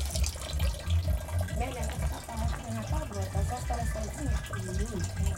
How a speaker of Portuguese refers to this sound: É coisa pra sumir água pra vir pra cá. O cano tá aqui. Que vem de lá para aqui. Passa, desce e vem sair aqui.